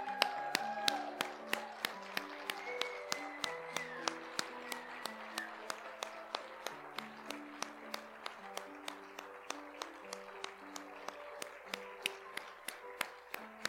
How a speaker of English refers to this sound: Oh, for those who are able, please stand. Let's give them an applause.